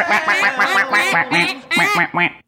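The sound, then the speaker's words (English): A duck-quack sound effect played from a button for the Oregon Ducks: a rapid series of loud, nasal quacks, about eight in quick succession with brief pauses, clear with nothing else behind them. “I got two buttons to press on this one. There's two presses. Right. We've got – Whoa! Oregon Ducks.”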